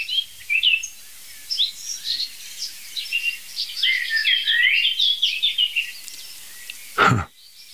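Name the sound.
blackcap and blackbird singing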